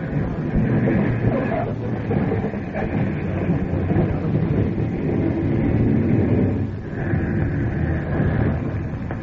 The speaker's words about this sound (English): Mr. Harding, we're coming down to land. Yeah. Hope this plane isn't too big for the landing strip. Here's the bump.